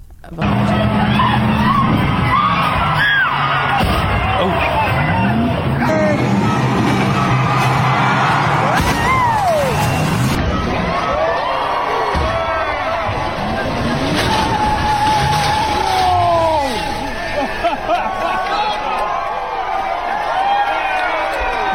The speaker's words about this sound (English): But anyway, 150 feet jumped. We got some audio to play for you. Now you're going to be like, "Oh, it sounds like a car jumping." Well, that's what the audio is.